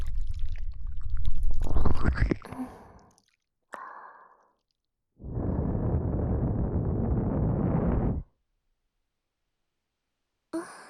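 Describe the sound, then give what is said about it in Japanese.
Wet squelching and gurgling as seawater is worked out of an ear, in two long dense bursts with a short muffled squish between them and silence after. “これで耳の中の海水は取れたはずね。”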